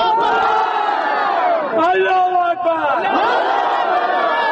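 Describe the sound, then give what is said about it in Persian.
A crowd of residents of Jabal Saraj district, Parwan province, marches on Saturday chanting slogans against provincial government officials over the inactive power plant, many voices in loud unison rising and falling together in a steady, shouted rhythm that continues for several seconds. “این مظاهره کنندگان بر روز شنبه علاوه بر راهپیمایی بر ضد مقامات حکومتی ولایت پروان شعار می دادند.”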